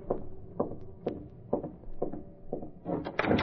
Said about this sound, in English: In a matter of minutes, Britt Reed, using a skeleton key, was opening the service door to Kane's apartment.